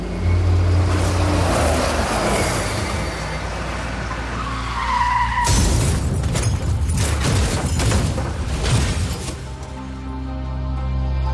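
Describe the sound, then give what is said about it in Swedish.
A tour bus rumbles and skids with a rising screech as the driver loses control, then crashes into a ditch beside a country road in Sweden early in the morning of 27 September 1986, with a sudden loud crash halfway through followed by heavy rattling and scraping. “Bussen börjar kränga. Chauffören tappar kontrollen och kraschar ner i ett dike.”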